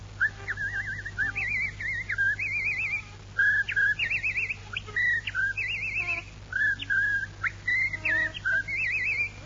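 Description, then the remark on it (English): Someone whistles a lively, warbling tune, with quick trills and rising and falling phrases in short bursts, broken by brief pauses, over a steady low hum. “Oh, I whistle, too.”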